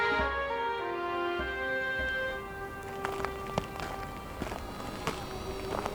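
A handful of footsteps, moderately loud and a little uneven in rhythm, tread along over a steady humming drone that fills the background. No one speaks.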